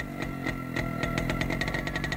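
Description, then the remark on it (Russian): An old motorcycle engine runs steadily, carrying a rider with a passenger on the back out of town along the Leningradskoye highway or beyond Izmailovo and Bogorodskoye. Its low rumbling putter is punctuated by rhythmic ticking and rattling bursts that quicken slightly toward the end. No voices are heard. “У Витьки был старенький мотоцикл, я обычно садилась сзади, и мы ехали то по Ленинградскому шоссе, то куда-нибудь за Измайлово, за Богородское.”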